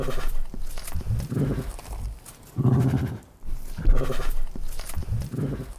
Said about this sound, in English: Yes, the gurgle. That's awesome that it's a tiger. And it's a really sweet sound. But we turned it into something scary.